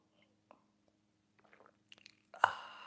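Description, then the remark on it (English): Faint, wet mouth sounds give way to one louder sip of coffee with a brief slurping rush near the end, no talking. “fill it with your favorite liquid, I like coffee. And join me now for the unparalleled pleasure, the dopamine hit of the day, and the thing that makes everything better.”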